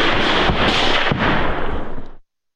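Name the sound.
gunfire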